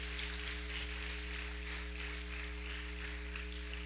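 A crowd claps in a dense, steady patter that holds evenly for about four seconds, fairly soft overall, with a low constant hum running beneath and no voices.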